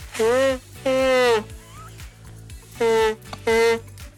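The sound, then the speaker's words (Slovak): A comic nose-blowing honk, four loud brassy trumpet-like blasts in two pairs with a gap between, each bending slightly in pitch, over a steady rhythmic music bed. “Momentíček, ja sa len vysmrkám.”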